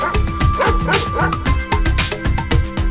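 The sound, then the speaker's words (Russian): About ten sleepy dogs run out of a door into a yard, barking and yelping in rapid, overlapping bursts, loud, with higher yips and a few whimpers mixed into the steady commotion. “Во двор из двери слоем выбежал десяток сонных псов.”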